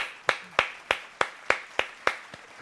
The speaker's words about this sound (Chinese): 你在这个节目让我按了两次掌声